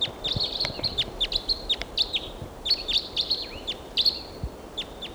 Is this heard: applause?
no